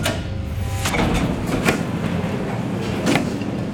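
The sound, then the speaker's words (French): A restaurant door opens and shuts at the end of a break, with a few sharp knocks and rattles over a steady background hum, with no one talking. “Allez, la porte, fin de la pause pour le restaurant, merci.”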